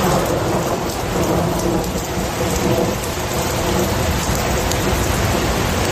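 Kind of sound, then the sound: nature, thunderstorm with rain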